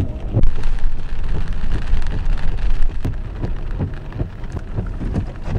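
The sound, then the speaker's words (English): Steady rain pours down and splashes onto the ground, a dense continuous patter with scattered louder drops and a low rumbling undertone, with no voices. “It's just getting the water hitting the ground.”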